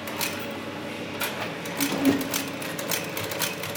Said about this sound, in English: The Globetrotter factory in Hertfordshire is where the cases are still made by hand, on Victorian machinery.